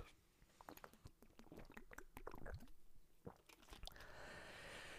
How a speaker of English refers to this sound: I'm high and drink water, so I'm really thirsty.